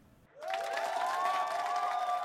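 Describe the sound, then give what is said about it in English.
A large crowd in the stands at an Olympic competition suddenly erupts into loud, sustained cheering and roaring, with voices and whistles blending into a dense wall of sound that holds steady after a brief quiet start. “Would you listen to that crowd roar?”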